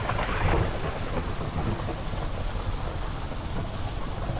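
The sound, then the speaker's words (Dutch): A heavy downpour roars steadily over a motorway where traffic has stopped, with deep rumbling thunder rolling underneath throughout. No one speaks; the storm noise stays dense and unbroken. “Ondertussen staan alle hemelsluizen open en ligt het verkeer op de autoweg stil, omdat je geen meter ver meer kan zien.”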